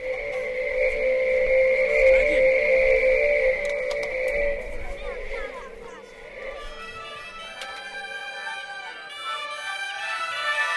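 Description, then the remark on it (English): A spinning bamboo Chinese yo-yo, spun on a string between two sticks, whistles as air passes through the holes in its sides, giving a steady, droning two-toned hum that wavers slightly for about six seconds, then fades under brighter, shifting pitched tones. “The wind goes through the holes and makes this sound.”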